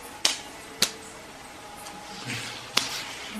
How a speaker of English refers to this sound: Having spoken these words, the infallible Hari slapped his arms. Bunjabogam bujabogam. He slapped his arms with his palms.